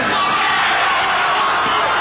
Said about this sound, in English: Listen to them screaming.